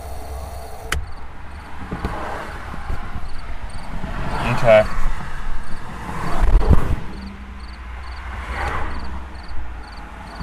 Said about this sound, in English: See if you hear this buzzing. Hear it. Anyway, it's the flashers have just totally, the flashers have just gone out into just this buzz.